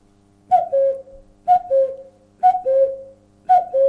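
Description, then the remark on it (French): A person whistles an imitation of a cuckoo just heard, in the month of May: four evenly spaced two-note calls, each a higher tone dropping to a slightly lower one, clear and fairly loud with no talking. “Oui, c'est pas une réponse là, c'est plutôt une imitation d'oiseau. C'est un oiseau que je viens d'entendre à l'instant, le coucou, puisqu'on est au mois de mai.”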